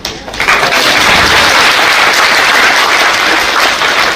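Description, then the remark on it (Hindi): An audience applauds in welcome, many hands clapping together in a dense, continuous wash of sound that starts almost immediately and holds loud and even throughout, with no talking over it. “आप मैं सबको स्वागत करें इस बात पर ताली बजा रहे हैं, तो मैं सब सभी ताली बजा रही।”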